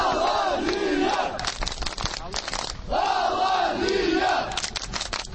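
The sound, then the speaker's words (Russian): A large crowd of fans of the football club Alania chants loudly in unison outside the republic's arbitration court in central Vladikavkaz. A rhythmic sung phrase repeats twice with punchy accents and massed voices throughout. “Так поддерживали свою команду фанаты футбольного клуба «Алания».”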